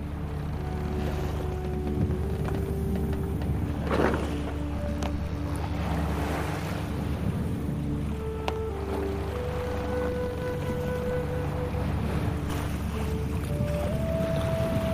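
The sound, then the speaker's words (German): Ocean waves wash steadily around a wooden Viking ship, at least 30 meters long with a flat bottom and a high bow and stern, with a constant low rumble, wind across the microphone, and occasional creaks and faint tonal groans from the hull. No one speaks. “Und jetzt blickst du dich ein wenig genauer auf dem Wikingerschiff um.”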